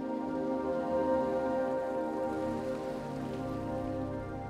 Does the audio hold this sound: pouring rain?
yes